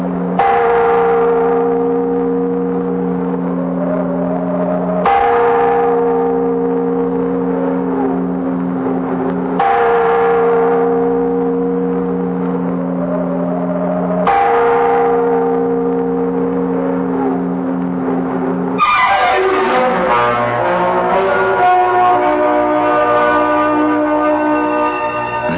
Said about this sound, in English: And as the great bell roused the Venetians